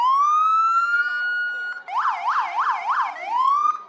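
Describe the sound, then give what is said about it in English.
A police car siren blares at the front of a library where children inspect the car, starting with a long rising wail, then switching to a rapid whooping yelp for several cycles before rising into a wail again. Loud and continuous, with no talking. “After Pritz's chat with the kids, he brought his police car around to the front of the library for all the children to inspect.”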